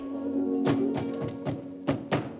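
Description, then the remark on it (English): A series of footsteps of a Russian soldier and his colleague approaching, thudding at a steady walking pace, the last couple growing louder as they come closer, over a low sustained hum in the background. “Hearing their approaching footsteps, a tearful Anna slowly turns her head in bed.”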